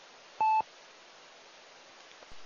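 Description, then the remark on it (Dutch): A single short electronic phone tone beeps once, clear and steady, signalling an incoming telephone call during the Meppelenronde radio round, against a quiet background hiss; no one speaks. “Je krijgt net telefoon, hè.”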